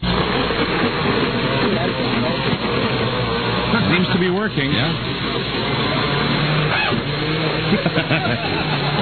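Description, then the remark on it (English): A blender runs loud, grinding artificial turf with virgin olive oil in a steady, harsh churning whir that never lets up, while a couple of people speak briefly over the noise. “You're listening to the sound of AstroTurf in a blender.”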